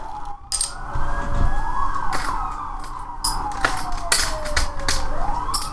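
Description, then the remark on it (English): A police siren at a Santa parade wails steadily in a residential street, its pitch sweeping slowly up and down over a rumbling street background, with a few sharp clicks and knocks in between. “Is it police? Yeah.”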